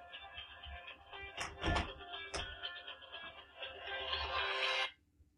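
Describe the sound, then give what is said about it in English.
A phone ringtone plays for several seconds, a bright electronic melody with a few sharp accents, growing slightly louder before cutting off abruptly. No one speaks. “See, I answered the phone and I kept you guys on for a little bit because I was really hoping it would be a telemarketer or something.”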